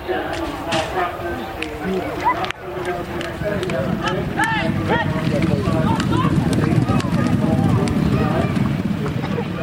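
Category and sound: animal, racehorses galloping past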